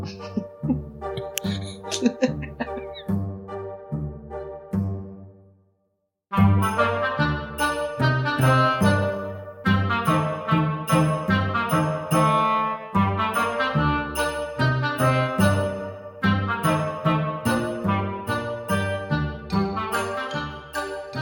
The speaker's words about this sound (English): Let's have a jingle, then we'll do a quiz.